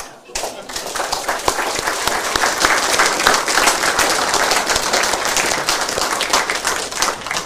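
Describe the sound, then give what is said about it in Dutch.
Steady applause from an audience, a dense crackle of many hands clapping that starts abruptly and holds at an even, fairly loud level for several seconds, with no one speaking over it. “En ik vond eerlijk gezegd het applaus voor jullie een beetje mager.”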